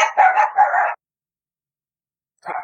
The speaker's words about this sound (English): Actually, interestingly enough, the baby doesn't even flinch with the dogs barking.